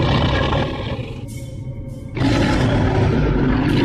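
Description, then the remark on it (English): A deep, guttural roar from an unidentified creature, a mixture of beasts akin to a lion's roar but deeper and primal, loud, briefly easing to a harsh rumbling growl before surging back at full force and holding to the end. “The sound that this creature, this entity made, was of a roar that was a mixture of beasts, akin to a lion's roar, but something deeper, primal, guttural.”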